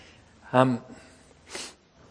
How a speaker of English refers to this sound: Blow my nose, sorry.